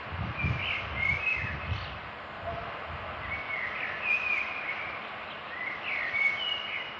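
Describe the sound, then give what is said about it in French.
Birds sing and chirp in short, scattered bursts over several seconds, above a steady outdoor hiss and a low rumbling background. No one speaks. “Et un jour, il a enregistré des oiseaux et a relu la bande à l'envers et aurait entendu des voix qui parlait des oiseaux de nuit.”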